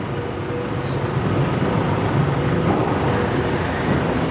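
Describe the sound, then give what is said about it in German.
Railcars of a truck scanner roll back along a track into the receiving pit, where the next truck is jacked up and pulled through; a steady, even low rumble with a grinding texture and a thin high whine held throughout, no voices. “Jetzt kommen die Railcars, man hört das so ein bisschen, die kommen zurück, werden hier in die Aufnahmemulde fahren und dann kommt der nächste, wird aufgebockt und durchgezogen.”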